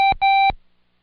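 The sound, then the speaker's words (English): Two Morse code beeps, a short one followed by a longer one, on a steady mid-high electronic tone, loud and clear with no talking, then silence. “Now close your eyes and listen to the code and see if you can say the sound alike before I cue you.”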